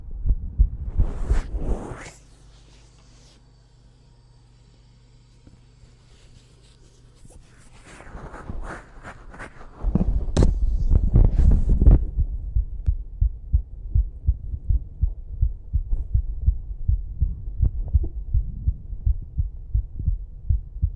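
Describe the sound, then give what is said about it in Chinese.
A rapid, steady heartbeat thumps with deep, muffled low pulses, following a stretch of rustling and a brief louder burst of noise. “我们血族的人不仅心跳快，动作也快。”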